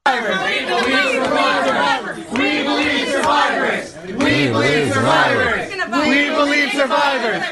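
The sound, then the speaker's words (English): A dense protest crowd gathered at a restaurant in Washington, D.C., chases a man out, chanting and shouting in unison, voices rising and falling in rhythmic, repeated phrases, loud throughout with a brief dip midway. “Watch what happened as a crowd gathered and chased him out of the restaurant in Washington.”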